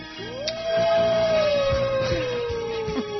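A single long wolf howl rises quickly, then holds and slowly slides downward in pitch, sustained and fairly loud for about three seconds with a faint low rumble beneath.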